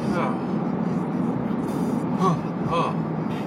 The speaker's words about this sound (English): Whoa, fast moving car. Fuck. Coming up behind me like a...